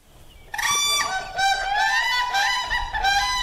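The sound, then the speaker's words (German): Whooping cranes call in a loud series of high, bugling whoops, rich and harmonic, repeating in overlapping bursts for about three seconds with no voices present. “1941 lebten nur noch 15 oder 16 Schreikraniche.”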